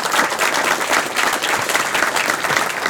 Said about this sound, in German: Ein Applaus für die Engel vom Chaos Communication Kongress, bitte.